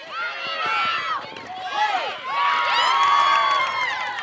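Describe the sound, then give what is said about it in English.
A crowd of families on bleachers cheers and shouts at a youth softball game on a warm, humid summer night in Correctionville, a small rural town in western Iowa: many overlapping voices, some high like children's, loud and nearly continuous, swelling in bursts with brief dips between. “Girls and boys are playing softball and baseball. Families have spaced out on the bleachers.”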